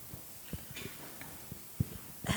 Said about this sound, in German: Mein Mann räuspert sich in der ersten Reihe, das irritiert mich.